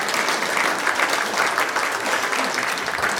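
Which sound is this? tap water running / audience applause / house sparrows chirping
audience applause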